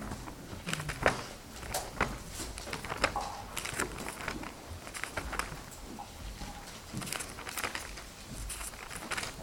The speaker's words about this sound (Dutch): Het mooiste geluid is het omslaan van de pagina's van de Bijbel. Het mooiste geluid wat er is.